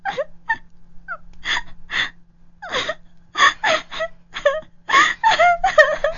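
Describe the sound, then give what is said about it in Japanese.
A woman cries and sobs over the phone in halting, wavering bursts, with gasping intakes of breath and whimpering wails rising and breaking over about six seconds, fairly loud, with no clear words. “泣いてちゃわからないよ。”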